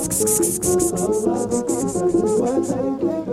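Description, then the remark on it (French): Several voices imitate crickets together by blowing through the tongue, producing a dense, steady run of rapid, hissy chirping pulses layered over humming, fairly loud for a few seconds. “Fais voir l'orchestre des grillons du coup de Chena. Bon, le grillon c'est pas exactement ça, mais on va dire que ça marche.”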